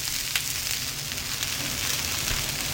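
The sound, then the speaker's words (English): Dumplings frying in the small kitchen of Ahan restaurant in Madison, an hour before it opens: a steady sizzle and crackle of hot oil, continuous throughout, over a low rumble of kitchen background noise. No one speaks. “Water is boiling, chicken is roasting, and dumplings are frying.”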